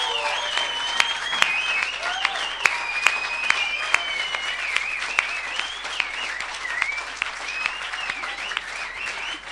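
Sustained applause from an audience, a dense wash of many hands clapping steadily for the full length, fairly loud and close, with a few sharper claps and scattered whoops standing out.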